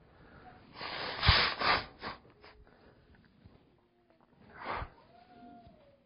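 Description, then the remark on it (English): Someone blows their nose: a long, forceful, breathy honk, then a pause and a second shorter blast. Nobody speaks. “sorry, I need to blow my nose”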